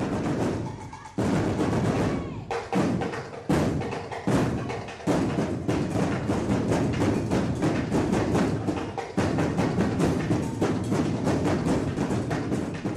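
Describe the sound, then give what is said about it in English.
Loud, driving drums and sharp percussive stomps from the Las Vegas High Steppers drill team's stepping routine at the Black Diamond 22nd Annual Drill Team and Drum Competition, hitting in fast, dense rhythmic bursts with a few brief breaks early on, then pounding steadily throughout. “Here's some sound of their routine at the Black Diamond 22nd Annual Drill Team and Drum Competition.”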